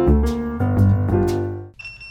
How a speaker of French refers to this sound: Ça décale. C'est le terme que l'on emploie quand notre bip sonne et que l'on doit partir en intervention.